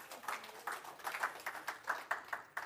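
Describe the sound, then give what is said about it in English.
An audience claps in a steady, fairly quick rhythm for a few seconds; the claps are soft and sharp with no voices over them. “Can you give him a hand?”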